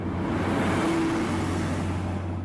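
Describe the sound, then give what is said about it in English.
A steady rumble of idling engines in city traffic at a red traffic light in the Johannesburg city centre, with a low, constant hum and a wash of road noise. It stays even throughout, with no voices. “as it speeds through a red traffic light in the Johannesburg city centre.”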